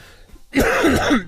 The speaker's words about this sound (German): Ich muss kurz husten, denn ihr habt schon bemerkt, ich bin etwas erkältet. Wir hatten einen Temperatursturz in den letzten Wochen und das hat mein Körper leider nicht verkraftet.